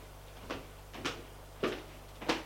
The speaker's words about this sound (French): Il ouvre la porte.